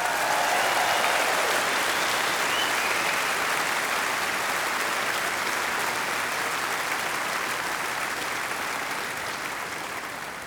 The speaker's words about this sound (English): Ladies and gentlemen, they come from all over Europe. Give them an enormous applause, ….